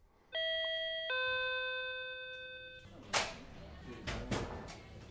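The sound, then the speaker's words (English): A clear two-tone ding-dong doorbell chime rings once at the entrance of a recreational marijuana dispensary in Leicester, a central Massachusetts town west of Worcester, its second note lingering, followed by muffled shuffling and indistinct room noise with faint voices. “The doorbell at Cultivate in Leicester is expected to ring often when adult-use marijuana customers descend on the central Mass town just west of Worcester.”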